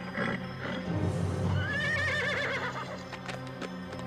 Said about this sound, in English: The metallic horse glares at Bravestar as he approaches the gun. The horse snorts and rears up.